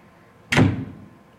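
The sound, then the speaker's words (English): A door swings shut with a single firm thud and a short rattling decay, fairly loud, with no talking. “Just let me show myself the door.”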